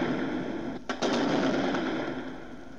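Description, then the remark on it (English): Sniper gunfire rings out in a quick cluster of sharp, loud cracks near the middle, standing out briefly against a steady rumbling, noisy background of tanks and armored personnel carriers, with no one talking. “They're firing bullet bullets.”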